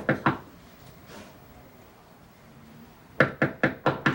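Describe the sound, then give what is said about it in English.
Knocking on the front door of Peter's house: two quick raps, a pause, then a firmer run of five evenly spaced knocks, fairly loud with no one speaking. “peers through the glass around the door into the foyer of Peter's house as Leslie responds to the knocking.”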